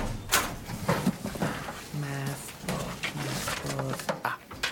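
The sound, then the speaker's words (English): A metal locker door clanks and creaks open, with a sharp bang near the start and drawn-out squeaky groans afterward. “This fell out when you opened your locker.”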